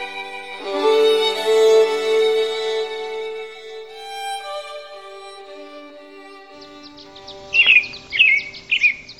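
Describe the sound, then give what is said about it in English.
Birds singing at sunrise in the South Rim village of the Grand Canyon: a sustained, ringing tonal wash fades out, then three loud bird calls ring out in quick succession, each a bright, sharply rising chirp. “Birds at sunrise in the South Rim village of the Grand Canyon behind me here.”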